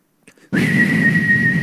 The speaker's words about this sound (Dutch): fluitketel. Dat is druk. Dat is heet, dat is ontploffen.